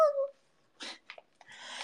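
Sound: cat vocalizing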